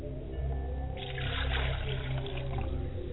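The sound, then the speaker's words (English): A glass of water is poured for the mother's side of the family while calling on the ancestors, a short splashing rush lasting a second or two over a steady low background hum, with no one speaking. “I pour water for my mother's side of the family.”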